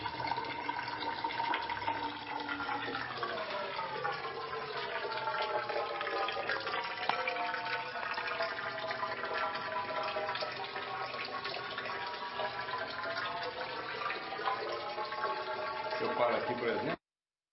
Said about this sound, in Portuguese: E ele funciona com essa água caindo aqui de cima. Né?